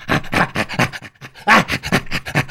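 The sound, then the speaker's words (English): Chimpanzee play panting: a quick, rhythmic series of breathy, raspy pants, about ten in a row with a brief pause midway, loud with no talking. “Yeah, so basically, panting became ha-ha.”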